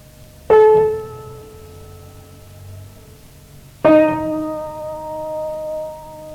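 Two separate struck piano notes, a tone outside the scale, ring out, each with a sharp attack and a long, bright, slowly fading sustain, the second arriving a few seconds after the first, with no voices.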